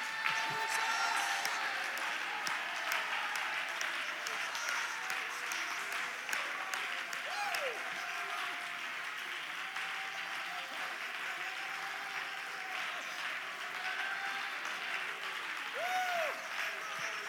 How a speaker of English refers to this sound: Everybody clap your hands, and while you're clapping your hands, shout to the name of Jesus as loud as you can shout right now.